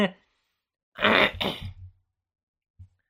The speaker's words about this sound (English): I don't know, I'm clearing my throat, I shouldn't.